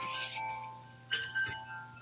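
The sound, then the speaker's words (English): Wind chimes ring softly outdoors, with sustained metallic tones hanging in the air and a couple of new strikes partway through, over a low steady hum. “I'm sitting outside and there are wind chimes here.”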